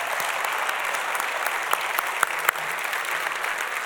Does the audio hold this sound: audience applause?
yes